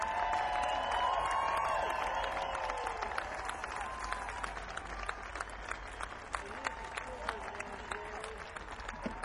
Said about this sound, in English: Let's give her another great big round of applause.